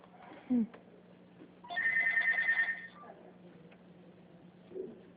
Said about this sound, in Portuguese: Agora eu não posso continuar, eu preciso atender aqui um telefone.